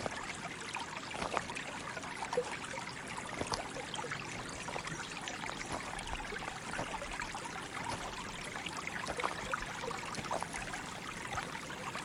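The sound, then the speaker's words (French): Steady lapping and trickling of a flowing river, a continuous gentle babble of water with small splashes throughout, no voices. “Pas après pas, le clapotis de l'eau apaise votre corps et votre esprit.”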